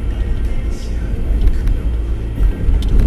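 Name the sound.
car driving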